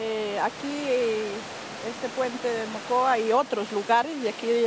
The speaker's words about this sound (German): Dahinter rauscht der reißende Rio Mocoa.